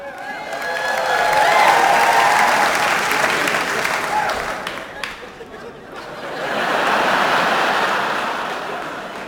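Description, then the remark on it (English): An audience claps loudly in a dense, sustained wave that swells, dips briefly in the middle, then rises again before fading, in response to a mention of getting a Droid phone from Verizon. “Don't you ever applaud an inanimate object again.”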